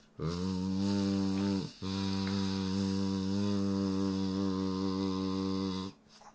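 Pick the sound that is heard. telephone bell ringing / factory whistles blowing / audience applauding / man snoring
man snoring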